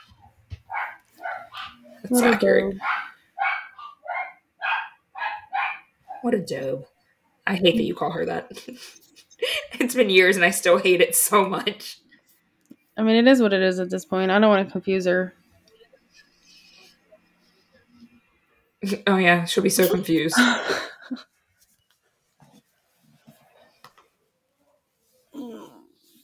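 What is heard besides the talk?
dogs barking loudly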